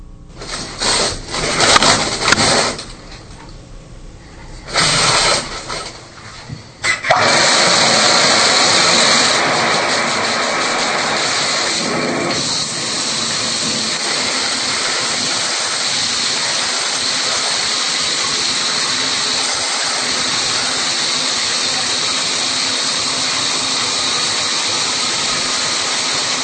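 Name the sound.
shower running water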